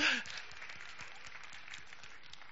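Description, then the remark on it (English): An audience claps with their wrists together to give praise to Jesus, producing a dense, steady patter of soft, muffled claps that starts a little louder and then continues evenly without any voices. “Come on, somebody from your heartfelt, give Jesus some praise by clapping your wrists together.”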